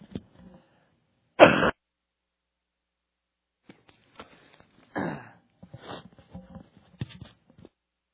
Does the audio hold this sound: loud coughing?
yes